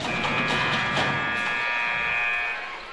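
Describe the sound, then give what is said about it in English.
A basketball game buzzer blares in one long, steady, harsh electronic tone for about two and a half seconds before cutting off, over a wash of crowd noise. It sounds at the end of halftime at a Class 2A Regional Championship game between the Salukis and the Mount Carmel Golden Aces. “Final buzzer sounds.”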